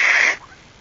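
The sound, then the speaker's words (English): A child gives one short, forceful nose blow, a breathy, hissing burst of air lasting about a third of a second, then it drops off into near silence. “Here, let me help you. Blow as hard as you can. Blow again.”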